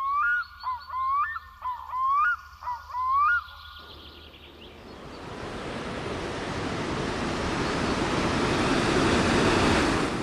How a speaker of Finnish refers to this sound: Vesi kuohuu kymmeniä metrejä korkeana könkäänä pitkin louhista uomaa, täyttäen pauhinalla syvän kuusikkolaakson. Näin kuvaili Iiko Inha Maaningan korkeakoskea 1900-luvun alussa.